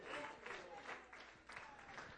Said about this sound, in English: Why don't you stand and give him praise? Why don't you stand and clap your hands, all you people, and say thank you.